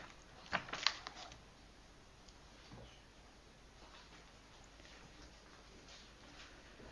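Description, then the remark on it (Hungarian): Paper rustles in a short flurry near the start as pages of a Bible are flipped back to Revelation chapter 2, a few crisp quick turns, then only faint hiss remains. Quiet. “Lapozzunk vissza a Jelenések könyve 2. fejezetéhez, és ugye itt mit is mond az 5.”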